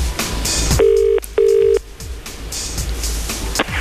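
Two steady electronic ringback tones of a phone call to a mail order company, each lasting about half a second with a short gap between, sound clearly over a low background rumble of noise.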